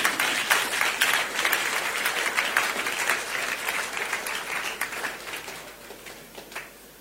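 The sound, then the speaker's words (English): A crowd bursts into steady applause, many hands clapping in a dense, crackling wash that holds strong for several seconds before gradually thinning and fading out. “If I show you that couple, you yourself will clap for Jesus.”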